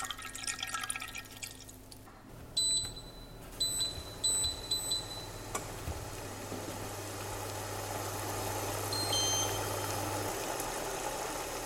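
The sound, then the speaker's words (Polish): Milk heating in a pot on an electric stove, with a low steady hum, scattered faint clinks and drips early on, then a rising soft hiss and bubbling that fills the background. “No to bierzemy garnek, wlewamy i na kuchenkę. W naszym przypadku elektryczną.”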